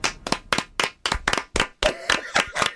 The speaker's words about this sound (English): Now the clapping has to go on for too long. Too long. Awkwardly long.